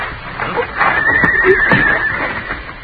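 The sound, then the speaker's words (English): A horse whinnies once, a wavering, high-pitched neigh lasting about a second, clear over a steady, noisy outdoor background with no talking. “Well, I'll take my horse then”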